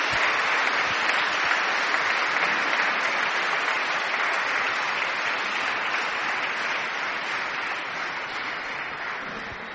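An audience applauds steadily for the whole stretch, a dense wash of clapping hands at an even, sustained volume that tapers only slightly toward the end, with no voices standing out.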